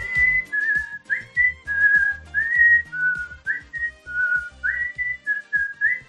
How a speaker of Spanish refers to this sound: El chiflador number one, hay que saber silbar así